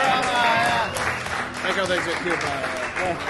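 An audience breaks into a round of applause, a dense, steady wash of clapping lasting a few seconds, with scattered cheers and whoops rising over it at the start.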